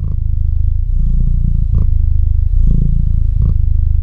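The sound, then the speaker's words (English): Bilbo the cat purrs steadily, a loud, continuous low rumble with a gentle rhythmic pulse, alone with no voices. “Now that is a purring sound you can meditate to.”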